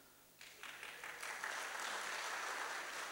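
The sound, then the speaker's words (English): A conference audience at LinuxConf AU in Australia breaks into applause after a short pause, the clapping quickly swelling into a steady, fairly loud patter of many hands that continues to the end. “Good jeans, and you get a clap.”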